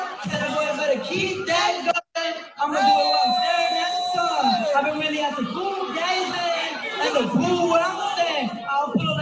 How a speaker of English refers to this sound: So the people are booing.